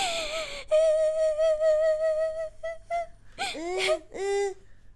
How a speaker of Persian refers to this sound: بچه چرا گریان میکنی؟ به خاطر گوشت کوب از کلگش تلش داده.